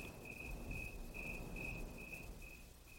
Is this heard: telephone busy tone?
no